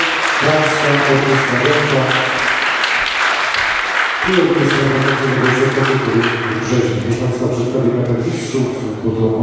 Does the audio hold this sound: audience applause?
yes